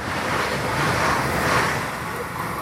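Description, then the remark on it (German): A train rushes by on the Riedbahn railway line between Mannheim and Frankfurt am Main, Germany, a line carrying 300 trains a day, with a steady, broad roar that swells slightly in the middle and then eases off, heard alone without any voices. “300 Züge rauschen pro Tag über die Riedbahn.”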